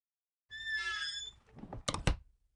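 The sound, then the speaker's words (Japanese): A blue door at the end of a corridor creaks open with a drawn-out, whining hinge squeak, followed by a couple of sharp clicks and a soft thunk of the latch. It is clear, with no voices. “廊下の突き当たりの青い扉、クレア様が扉を開けます。”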